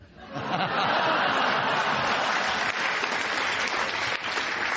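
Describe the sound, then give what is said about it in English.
A crowd bursts into a round of applause, clapping steadily and loudly for about five seconds with a dense, even patter and a few chuckles mixed in. “a point for the round of applause that he was searching for.”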